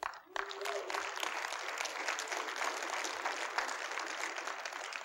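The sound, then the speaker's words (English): After a brief near-silent moment, an audience gives itself a hand, bursting into applause, a dense, steady wash of many hands clapping that holds at an even loudness for several seconds. “I said, give yourself a hand.”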